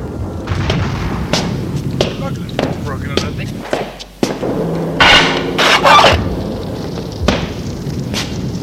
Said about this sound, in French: Puis, après avoir mangé quelques gâteaux, il ferme la boîte. Et va poser la boîte sur la table.